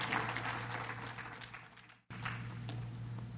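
A church audience claps their hands for the parents in a sustained round of applause, dense and steady, with a brief abrupt break midway before the clapping resumes over a low background hum.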